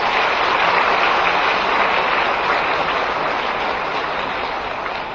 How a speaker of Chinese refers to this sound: 所以那么今天一早台长在观音堂磕头的时候呢，观世音菩萨来了，来了之后呢，他给我看到了，就在我们剧场的上面，所以呢，大家再鼓鼓掌，谢谢观世音菩萨。